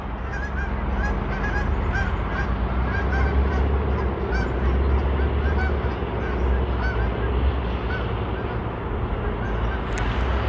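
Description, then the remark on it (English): A large flock of geese flying over in a big V formation in winter honks continuously, many overlapping calls forming a dense, steady chorus that stays loud throughout, with a low rumble underneath. “Another big V of geese going over.”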